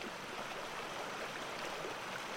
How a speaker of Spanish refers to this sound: Y el río sigue, hablándonos en las voces de agua y piedra, de chicharra y grillo, de ave y ardilla, de la brisa por el dosel.